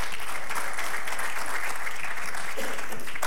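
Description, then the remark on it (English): A sustained round of audience applause welcoming representatives of local ministries as they come up to the front, dense steady clapping from many hands at a moderately loud level for a few seconds, with no talking over it. “Let's give them a big round of applause as they come on up here.”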